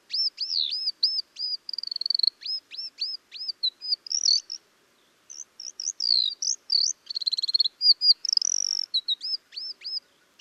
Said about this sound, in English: Ground tits aren't nearly as vocal as their cousins. They're silent most of the time. But here's a recording made in China, and I think there are 2 ground tits vocalizing here.